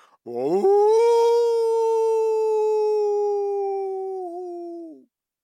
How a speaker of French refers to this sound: Soudain, au plus profond de la forêt, les animaux voient briller devant eux deux yeux jaunes, se dresser deux oreilles pointues et s'ouvrir une gueule pleine de dents. Il y a bien un loup dans la forêt. Le loup pousse un épouvantable hurlement.